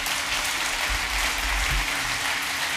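Steady audience applause for a speaker fills the whole stretch, a dense, even wash of many hands clapping at a constant loud level with no voices breaking through.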